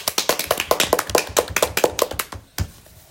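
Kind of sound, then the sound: crowd, applause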